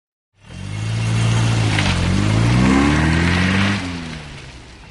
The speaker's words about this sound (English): And I drove my car off the train and onto the road. A French road.